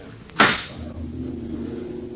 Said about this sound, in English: Listen. The drone of lawmakers before the President of the Senate raps the gavel for silence.